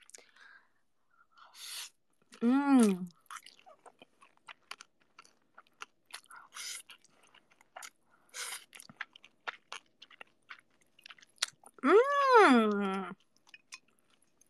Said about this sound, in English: Delicioso. Yummy. Enak. Lezat. Talks about the nastiest stuff and immediately goes eating noodles.